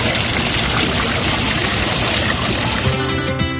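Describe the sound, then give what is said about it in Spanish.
Water splashes and pours steadily from a public fountain where tourists cool off in the heat, a loud, continuous rushing hiss, with a faint tonal hum creeping in near the end. “Aquí el calor ya empieza a apretar, por eso algunos turistas mientras esperan se refrescan como pueden en las fuentes.”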